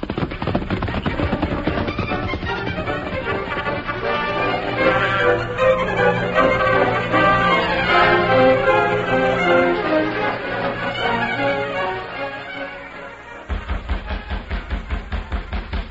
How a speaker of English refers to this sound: Someone at the door. Likely someone wanting to know the way to town.